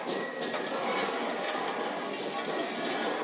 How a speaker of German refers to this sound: Ein Narrenumzug zieht durch Grosselfingen. Doch anders als bei den Zügen der schwäbisch-alemannischen Fasnet kommen alle 39 Narrenfiguren aus dem Ort selbst. Der noch relativ ungeordnete Zug zieht auf den Marktplatz ein.